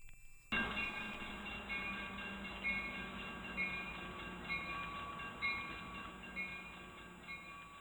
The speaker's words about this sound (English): The GO train is getting closer to Barrie. Right now, service ends in Bradford.